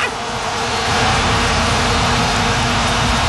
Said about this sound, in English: But this is what it sounds like when you have 80,000 people in the stands and everybody's grabbing their vuvuzela.